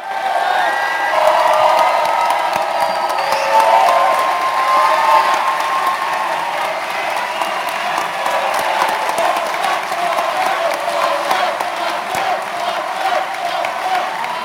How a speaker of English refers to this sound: Cheering on the Mandela of Puerto Rico, Oscar Lopez Rivera.